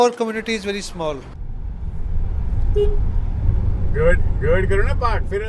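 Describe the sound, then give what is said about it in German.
Steady low engine and road rumble from inside a car driving in Gurgaon, 30 km southwest of Delhi, India, to a temple of a Kashmiri goddess, continuous throughout, with people talking over it at the start and again near the end. “… fährt mit dem Auto zum Tempel der kaschmirischen Göttin Kirbhavani.”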